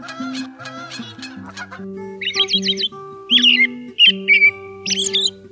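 An American robin sings a series of short, bright caroling phrases with brief pauses between them, following honking Canada goose calls at the start, all over a soft, steady low musical tone.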